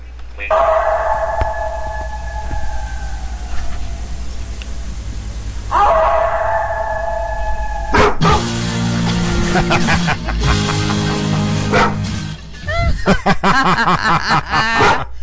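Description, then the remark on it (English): A dog, Max, growls and barks in long, drawn-out vocal bursts, some rising into whiny, howl-like tones, while a person talks at moments around it. “Oh, he growled.”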